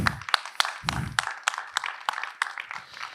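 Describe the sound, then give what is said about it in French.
Moderate audience applause for a member of the speaker's team, with sharp, distinct claps landing at an uneven rhythm over a softer bed of clapping, and a brief low murmur of voices near the start. “je voudrais qu'on applaudisse”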